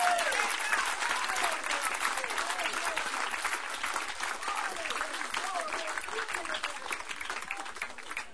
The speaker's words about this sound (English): Lift your hands, clap your hands unto Jesus.